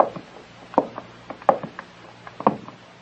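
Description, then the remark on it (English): Several irregular knocks on a wooden door, moderately loud, spaced unevenly with faint softer taps between them and no voices. “You go first, and when the coast is clear, knock on the door once.”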